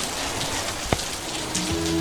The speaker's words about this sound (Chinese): 今天怎么又下雨啦？